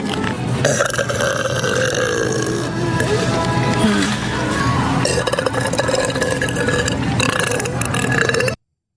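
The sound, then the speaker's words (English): A loud, drawn-out burp rumbles on without a break for about eight seconds, raspy, then cuts off abruptly. No one speaks. “I bet you wish you can buy all the products that I just burped on, huh?”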